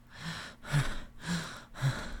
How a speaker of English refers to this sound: So you hear my breathing quickening.